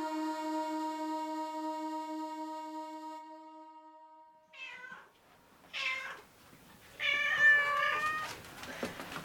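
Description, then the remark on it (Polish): A steady harmonic tone hums for about four seconds, then several of the speaker's angry cats, including Krzysiek, meow in turn, with short cries and a louder, drawn-out yowl near the end. “O, już wszystkie się koty moje uruchomiły.”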